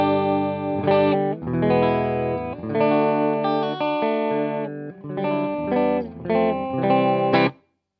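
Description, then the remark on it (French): A clean electric guitar with both pickups engaged plays a short passage of chords and single notes through a small tube amp on its clean setting, dry with no reverb, ending abruptly. No talking. “On va se remettre en clean tout de suite pour l'écouter. Donc, sans reverb du tout avec les deux micros enclenchés, on a ça.”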